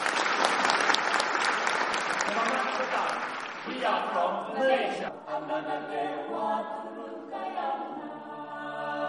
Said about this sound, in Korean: 아시안 뉴스 파이어 포원 AYCO의 입장 박수로 맞아주시기 바랍니다.